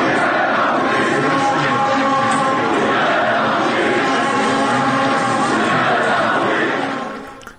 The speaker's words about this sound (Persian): بله، تشویق تماشاگران بازی استقلال و نفت رو شنیدیم. نفته. که استقلال و نفت بود، درسته؟ بله، نفت مسجد سلیمان. نفت مسجد سلیمان که بوریا غفوری رو یک صدا تشویق میکردن.